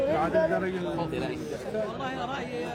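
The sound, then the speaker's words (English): A crowd of about 30 men of different ages, including teenagers, gathered around a film crew stopped in town, chattering all at once, a steady overlapping babble of male voices with no single speaker standing out, holding at an even, moderately loud level throughout. “And now we've gathered a crowd around us.”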